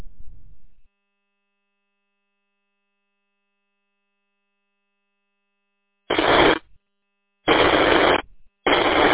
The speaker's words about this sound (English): Sounds like somebody's trying to interfere with us. Sounds like it's kind of static,